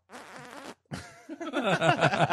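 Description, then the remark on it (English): A voice imitates a small, pop-gun-like fart with two buzzy, sputtering raspberry bursts: a short softer one, a brief pause, then a longer, louder one. “I was like, yeah, today I had like a pop gun.”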